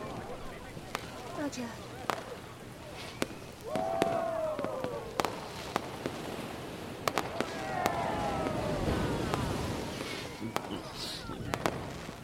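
fireworks display exploding

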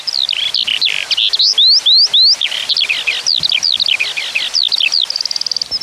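skylark song

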